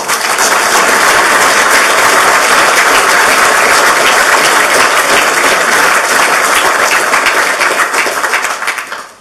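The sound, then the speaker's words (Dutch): Sustained applause from a sizable audience, a dense, steady wash of many hands clapping at full volume, tapering slightly only at the very end. “een applaus voor jou.”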